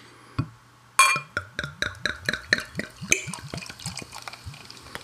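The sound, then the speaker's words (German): A single click, then unfiltered, unpasteurized beer glugs out of a bottle into a small tasting glass in quick, regular gurgles, fairly loud, easing off toward the end. No one speaks. “Hier steht bis oben der Schaum.”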